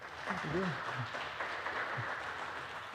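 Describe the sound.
A crowd applauds steadily for several seconds, a dense, even wash of clapping with a few voices calling out over it.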